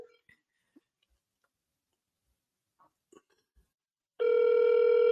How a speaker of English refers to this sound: Oh, then that's a different ringtone than I was just getting. It's like I was just getting some English ringtone.